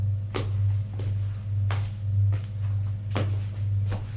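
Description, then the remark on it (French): A woman knocks on a door and opens it: several dull knocks or thumps land at a slow, uneven pace over a steady low hum, with no one speaking; the door-opening part isn't clearly distinct. “frappe à une porte, l'ouvre et dit, « Monsieur, entrez.”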